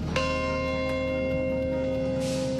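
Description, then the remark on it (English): A single deep bell tolls clearly at the site of the World Trade Center, remembering the terrorist attacks of 16 years earlier; its rich metallic hum lingers and slowly fades over a few seconds, with no voices present. “A bell tolls at the site of the World Trade Center, remembering the day 16 years ago when terrorists struck and murdered over 3,000 innocent people in three separate locations in the U.S.”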